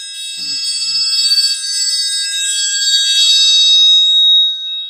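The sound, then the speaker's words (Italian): A triangle rings out bright and shimmering, struck in quick rattling rolls that sustain for several seconds before trailing off, played alone with no voices. “Ok, questo è il triangolo.”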